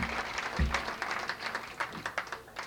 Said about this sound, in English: I'm really sorry that you had to clap all that long.